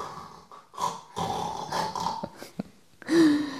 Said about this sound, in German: Heute geht es um Schnarchen. Kennst du dieses Geräusch?